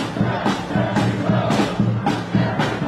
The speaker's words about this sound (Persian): اینها طرفداران بایدن در نیویورکند. فریاد می‌زنند تک تک آرا مهمند و تمامشان باید شمرده شوند.